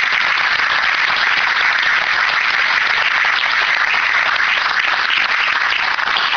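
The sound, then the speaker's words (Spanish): An audience applauds boxer Cuerito Rodríguez, Olympic bronze medallist in Tokyo, seated in the front row; a dense crackle of many hands clapping at an even, sustained loudness for several seconds with no voices over it. “Me refiero a Cuerito Rodríguez, para el que pido un gran aplauso.”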